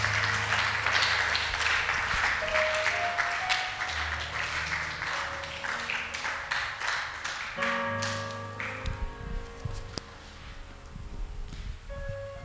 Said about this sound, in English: Please rise to your feet. Oh, I thought people who meditate will clap louder to God's glory.